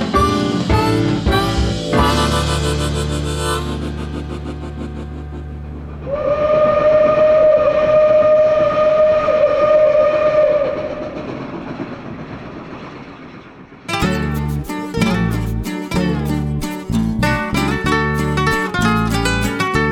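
A train rumbles along the rails while a long, steady whistle blows for several seconds, framed by lively music before and after. No one speaks.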